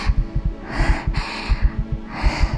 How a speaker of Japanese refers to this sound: ほらね、ドクンドクンって私の音と君の音がだんだん一緒になる。